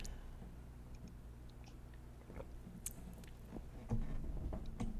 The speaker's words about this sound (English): Let me just grab a sip of water here.